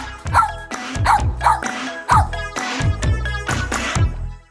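A dog barks repeatedly, about eight sharp, loud barks in a quick, fairly regular series, with a steady tonal backing underneath.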